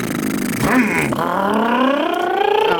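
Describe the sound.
A voice imitates a motorcycle engine, a buzzing vocal drone that swoops up and down in pitch before settling into a rising, revving whine, loud and continuous.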